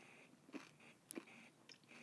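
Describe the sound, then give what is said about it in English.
Quiet chewing of a peanut, with a few soft crunchy bites spaced about half a second apart and no one speaking. “… is currently chewing right now”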